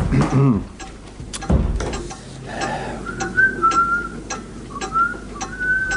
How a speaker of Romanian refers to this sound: Te-am spus să nu mai fluier prin casă.